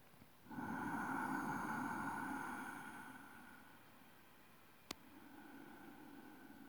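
A long, steady rushing ujjayi breath drawn through a constricted throat during a stretching exercise, fairly loud, easing off after a few seconds, followed by a softer second breath beginning; a brief click sounds in between.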